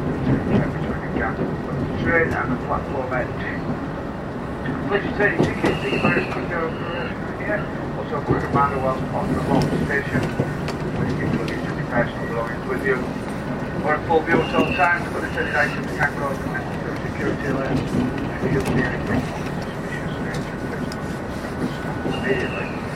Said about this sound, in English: Ladies and gentlemen, in a few moments time we will be arriving into Manchester Piccadilly where this train terminates. Please ensure you have all your luggage and personal belongings with you before you leave the service.